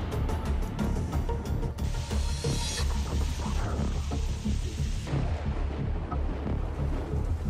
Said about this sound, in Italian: Un tornado devastante ha colpito la Cina settentrionale. Fuzhou, nella provincia di Jiangxi, è stata colpita da una tempesta convettiva, con temporali, piogge e venti paragonabili a quelli di un tifone.